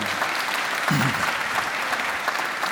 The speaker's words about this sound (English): If you don't know Baptists, we don't know when to clap. It always starts awkwardly, like we don't know exactly what to do.